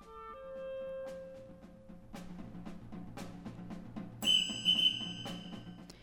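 Orchestral music for an orchestra including a whistle, a whip and a hammer, with sustained tones and a busy rhythmic texture, punctuated by sharp percussive cracks and strikes, with a shrill, piercing whistle blast cutting in near the end.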